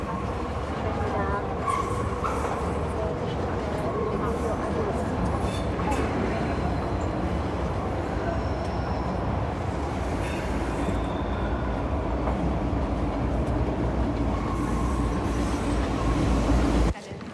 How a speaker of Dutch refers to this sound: Even later zit Lara op de metro.